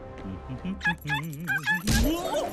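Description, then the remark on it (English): At an airport, a dog lets out a quick run of high yips and short barks, then a sudden heavy thud as the dog slams into someone who lands on his shell, all fairly loud. “The dog slams into Cecil, who lands on his shell.”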